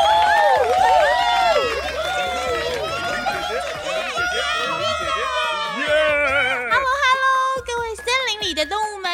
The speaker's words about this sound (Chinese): 哎呀，今天啊，我们特地邀请到音乐城堡的玲玲姐姐来担任我们比赛的评审。现在就让我们来欢迎玲玲姐姐，嘿，掌声加尖叫！